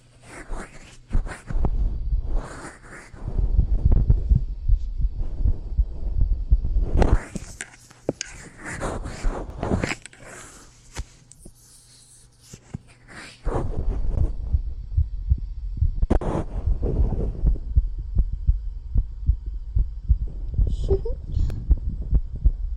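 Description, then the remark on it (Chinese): A fast, steady heartbeat, heard with an ear pressed against a person's chest, thumps in rapid, even pulses, with soft breathy whispering and rustling drifting in and out over it. “你们吸血鬼的心跳比你们人类的要快很多呢，对吧？”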